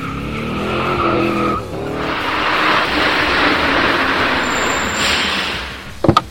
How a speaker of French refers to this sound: Ben, qu'est-ce que c'est que ce bruit? Ça ressemble à un camion.